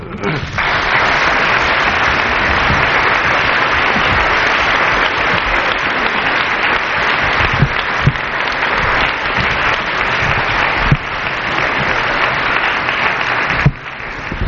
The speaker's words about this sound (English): It's ill grace to get up while he's still receiving his applause, but although I'm used to the Carson show, I don't anticipate that you'll wait until 1 o'clock in the morning.